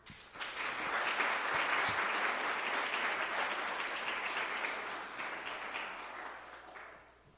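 A round of audience applause for a guest speaker being introduced to give a talk, dense and steady clapping that swells quickly, holds for several seconds, then tapers off at the end.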